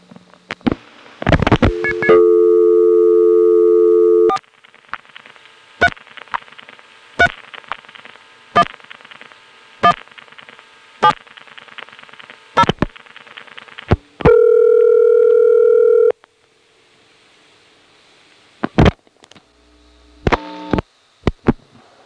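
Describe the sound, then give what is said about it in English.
A touch-tone call from a step-by-step office in the Bell system to a nearby ESS exchange: steady dual-tone bursts, a series of short clicks and pulsy noises across the line, another sustained tone, then a few final clicks and buzzy tones, with no talking. “First, let me show you what a step in the Bell system using touchtone ought to sound like calling a nearby ESS.”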